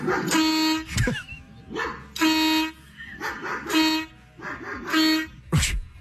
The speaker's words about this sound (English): Every time the dog barks, he hits the button and it air horns back at the neighbor's dog.